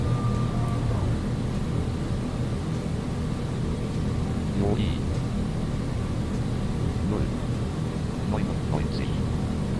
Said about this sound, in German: So, wir bremsen mal.